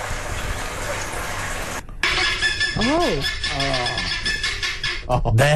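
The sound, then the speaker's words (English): Guinea fowl calling loudly over a noisy background, with repeated harsh, rising and falling squawks and grating cries overlapping after a brief pause at the start. “I've just found some guinea fowls. Let's hear them.”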